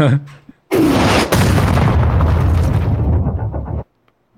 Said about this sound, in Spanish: Kabum, kabum. sonido de explosión. Sonido de explosión.